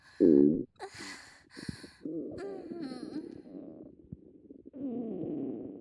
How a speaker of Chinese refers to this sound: 从屁眼到整个肚子里都感觉到凉凉的胀胀的呢。肠子里发出的声音就像放屁一样呢。